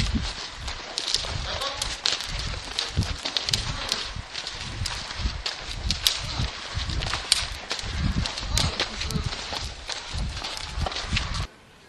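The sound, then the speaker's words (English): Hooves of a mare at an extended walk, asked to step out a little faster, striking the ground in a steady, brisk four-beat rhythm, each footfall distinct, with a faint rustle of movement between steps. “And let's try an extended walk. Can we ask her to step out a little faster?”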